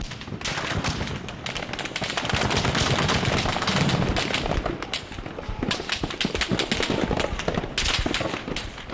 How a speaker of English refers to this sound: A man ran up warning that these weren't rubber bullets, but live ammunition fired by the Bahrain Defense Forces, or BDF, on its own citizens.